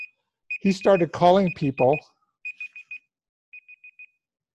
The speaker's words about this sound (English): That's my timer.